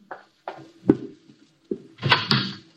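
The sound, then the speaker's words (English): A door is opened as someone goes to answer it: several sharp clicks and knocks of a latch and handle, then a louder rushing scrape as it swings open, with no voices. “I'll go to the door.”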